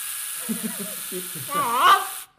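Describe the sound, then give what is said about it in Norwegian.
An electric epilator runs with a steady, hissing mechanical buzz; its motor whine wavers and rises in pitch near the end before it abruptly cuts off. “Dette en epilator.”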